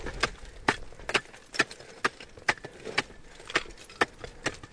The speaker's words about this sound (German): nimmt Maß, halbiert den Brocken mit einem Beil.